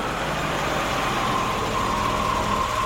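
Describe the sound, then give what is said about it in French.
The engine of a car that has just stopped in front of a manor gate idles steadily, a continuous low rumble with a faint whine on top, holding an even loudness throughout with no voices. “le colonel et le sergent Tibbs aperçurent une voiture qui venait de s'arrêter devant la grille du manoir d'Enfer”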